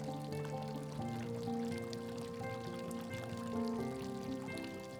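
Fountain water pours and trickles in a steady, continuous stream at moderate volume, with soft sustained musical tones humming underneath and no one speaking.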